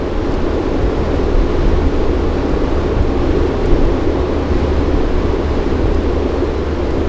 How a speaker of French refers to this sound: La place de la Nation est sous le soleil aujourd'hui. On écoute voir si elle a quelque chose à nous dire sur cette bouche de métro ou de RER qui passe, une soufflerie.